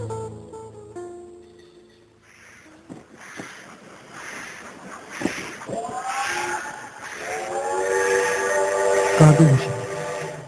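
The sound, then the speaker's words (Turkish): A steam train whistle sounds in a long, sustained blast that swells louder over several seconds, its chord-like tone ringing above a rumbling, hissing background with brief thumps. “Tren bekliyor.”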